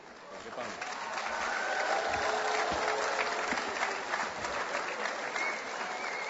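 Sustained audience applause at a celebration in Slovenia after Maribor auxiliary bishop Dr. Peter Štumf's invitation to Maribor, a dense wash of clapping that swells in the first second and holds steady and fairly loud throughout.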